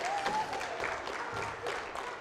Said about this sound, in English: Ladies and gentlemen, a round of applause for the children.